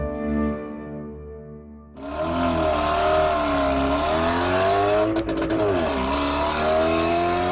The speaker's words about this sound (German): Mit dem Auto.